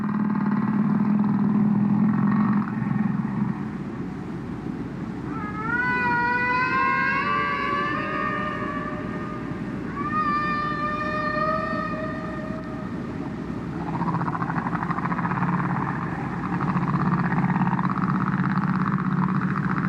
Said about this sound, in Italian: Questo è il canto delle balene.